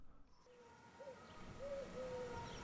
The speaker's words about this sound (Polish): Widzicie, jakie piękne gołębie? Do kolegi wpadłem, bo ja już swoich nie hoduję.